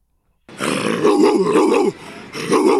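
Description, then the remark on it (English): A person imitates a dog's growl as an "NBA bark", a loud, rough, guttural snarl held for over a second, briefly dipping before rising again. “Hey, that was a real dog right there.”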